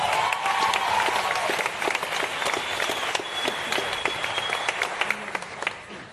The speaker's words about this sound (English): And I think it's an incredible cause, and I think the Cliff Central team need another big round of applause.